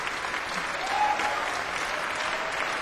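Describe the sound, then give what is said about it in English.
Sustained applause from a sold-out concert audience and the orchestra at City Halls in Glasgow as a banjo player returns to the stage, a dense, steady wash of clapping hands that fills the hall evenly without pause. “Here he comes at quite a canter, getting applauded by the orchestra as well as by the sold-out crowd here at City Hall's.”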